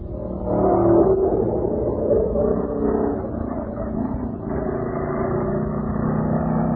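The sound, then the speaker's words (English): Stock car engines at the West Peabody Speedway roar in a steady, loud, low rumble, with a throaty pitch that rises and falls slightly as the cars race by, continuing without a break and with no voices. “Do we have any sound effects for the West Peabody Speedway?”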